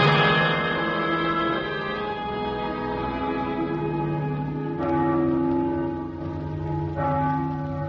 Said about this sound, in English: Mama, the bells are ringing again. Is it Sunday? No, Danny. The bells ring that way when people die.